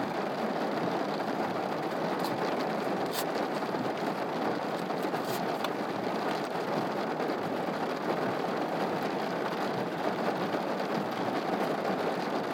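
rain

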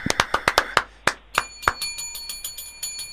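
bell ringing

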